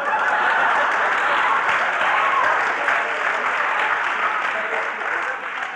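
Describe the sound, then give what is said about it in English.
An audience of students bursts into sustained applause to signify their choice among contestants, a dense, steady wash of many hands clapping at full volume for several seconds, easing off only slightly near the end. “Now, students, I want you to signify with your applause.”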